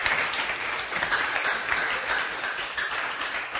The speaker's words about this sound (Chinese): 好，请你上来好了，给他一点掌声。